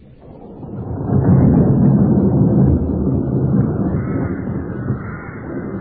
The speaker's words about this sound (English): What brings you out in the storm? I think I made it back before the rain.